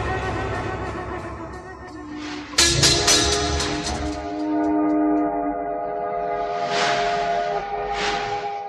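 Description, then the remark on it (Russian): A steam train whistle sounds with sustained harmonic tones as the train sets off, accompanied by bursts of hissing steam that swell and fade, with low rumbling machinery underneath. “Во все концы страны бегут длинные тяжелые поезда.”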